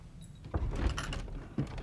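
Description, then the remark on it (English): The right-hand door of a built-in wooden cabinet behind a desk creaks open a crack, a short rough groan followed by a second brief knock-like shift as it settles, heard alone. “The right-hand cabinet door opens a crack, and Price steps warily around the desk toward it.”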